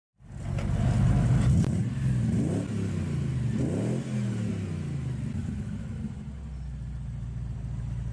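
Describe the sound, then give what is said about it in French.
A car with four people aboard starts up with a low rumble, then revs and accelerates through a couple of rising pitch sweeps before settling into a steady, loud drone. “Nate, Michael, Jordan et la meilleure amie de Nate montent dans la voiture.”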